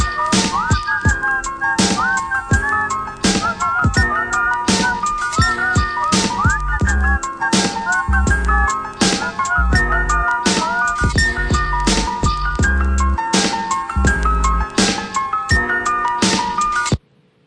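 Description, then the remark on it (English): A whistled melody with layered harmony rides over a loud, punchy hip-hop beat with heavy bass kicks, continuing steadily until the music cuts off abruptly at the end. “I was whistling at the end.”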